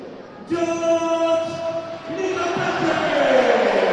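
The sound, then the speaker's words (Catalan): A Villarreal stadium crowd gives a loud ovation for player George Micautatze as he receives an award as the team's top scorer with 15 goals, a broad roar of cheering and applause that swells steadily over the final seconds, with sustained horn-like tones droning through the noise. “De gols per a George Micautatze, que rep l'ovació de la grada.”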